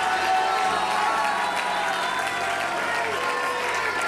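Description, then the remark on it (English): A church audience shouts "Hallelujah" and cheers together to the Lord in a loud, continuous roar, with clapping mixed in, holding steady for about four seconds. “Hallelujah, with a loud voice.”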